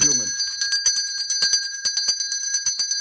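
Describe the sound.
A small shop door bell, hanging by the door and rung when a customer pulls its string, jangles rapidly and steadily, bright and metallic, with a quick shaking rhythm that keeps going for about three seconds after a brief voice at the start.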